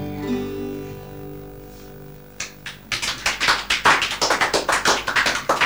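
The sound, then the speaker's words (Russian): A sustained musical chord fades out, then a round of audience clapping breaks in after the song and carries on, loud sharp claps coming in quick, steady succession. “Не знаю, достойна ли эта песня таких аплодисментов.”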